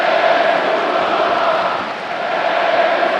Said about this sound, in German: Als er sich erhebt, brechen die Gesänge los.